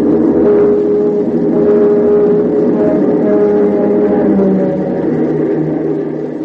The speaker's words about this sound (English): It seems logical to begin with a sound effect familiar to all Gothamites. The first sound the visitor will recall, a streamliner plunging into the tunnel towards Grand Central.